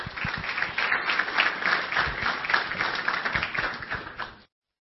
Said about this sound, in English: why don't you give him a round of applause to do the official welcome.